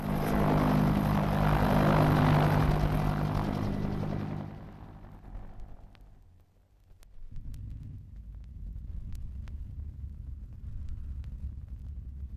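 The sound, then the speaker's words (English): The twin piston engines of a Vickers Varsity aeroplane (the Air Force name; civilians know it as the Viking) roar loudly with strong low harmonic drone, then throttle down and fade to a steady, quieter rumble with occasional faint clicks. “This is a well-known noise of almost any twin-engined, piston-engined aeroplane 20 years ago. This happens to be a Varsity, or which the civilian flyers will know better as a Viking.”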